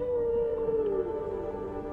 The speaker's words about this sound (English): Listen. The whales are calling.